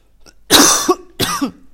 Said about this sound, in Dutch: Nou, ik ben nog een beetje aan het hoesten. Ik weet niet hoe het komt. Mijn kinderen zijn ook erg verkouden, dus ik lijk er niet helemaal af te komen. Dus als je me af en toe een beetje hoort hoesten, excuses daarvoor.